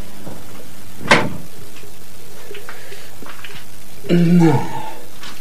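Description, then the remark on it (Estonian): A heavy iron door opens with a sharp clunk, then a loud, grinding creak about three seconds later, against a quiet background. “Ma lõsin teda rauast ukse panna.”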